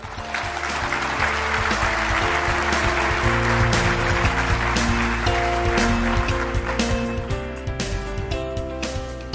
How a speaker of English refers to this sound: Let us give her a round of applause as she comes up.